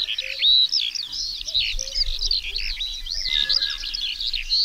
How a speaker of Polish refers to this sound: Już zachowują się terytorialnie, myślę o skowronkach, bo już nad naszym lubelskim niebem pojawiły się od tego tygodnia, czy ponad tygodnia śpiewające skowronki.